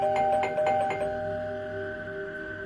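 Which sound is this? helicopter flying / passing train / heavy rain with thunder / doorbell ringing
doorbell ringing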